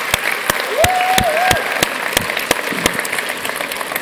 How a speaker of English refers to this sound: But can we just give a round of applause for the missionaries that serve from this church?